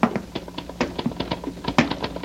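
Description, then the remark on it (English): Typewriter keys clack in a quick, irregular run of sharp taps, moderately loud, with one heavier strike near the end and no voices. “I mean, I hear him, his typewriter.”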